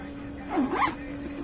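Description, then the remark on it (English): A couple of quick zipper pulls rasp open in close succession, brief and fairly quiet, over a low steady background hum. “Like, how many damn zippers does he have?”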